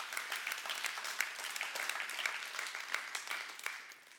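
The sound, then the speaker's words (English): An audience applauds steadily, many overlapping claps forming a dense, bright patter that holds at an even level for several seconds with no voices over it. “You're just clapping now.”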